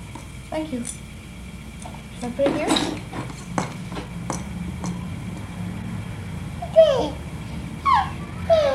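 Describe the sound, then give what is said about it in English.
A baby's rattle is shaken in short, irregular bursts of clicky chinks, with a small child babbling and squealing between the shakes. “It's a rattle.”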